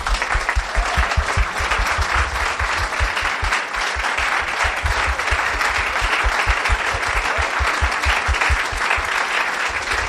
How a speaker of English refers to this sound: All right, well, I'd like to thank all 4 of our speakers. It has been such a privilege having all of you up here with me and getting to ask all my boring questions. I think everybody will join me in a very big round of applause.